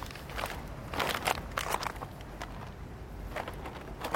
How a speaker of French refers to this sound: En général, dans cette émission, vous entendez souvent des pas dans la neige, des pas dans les feuilles, dans les branchages. Là, c'est des pas sur des bouteilles plastiques. C'est un petit peu différent.